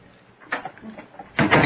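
A door is opened with a short rattling clunk, followed by a louder, broader scrape and thud as it swings or slides, with no talking.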